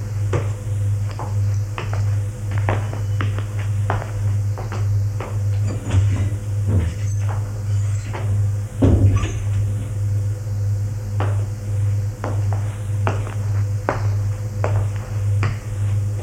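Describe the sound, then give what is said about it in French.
Footsteps of a man walking into the kitchen at an unhurried, fairly regular pace on a hard floor, each step a short knock, with a few louder thuds, all over a steady low electrical hum. “Il va à la cuisine.”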